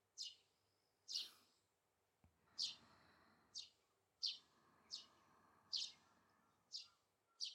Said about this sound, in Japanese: ほら、さっきの鳥や動物の声も、葉っぱの擦れる音も、全部優しく感じてる。